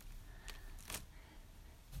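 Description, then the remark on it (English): Hands grip the arms and back of a piece of furniture, producing two brief, soft clicking creaks about half a second apart, quiet, with no talking. “And this is the sound that it makes when I grab hold of the arms and the back of it with my hands.”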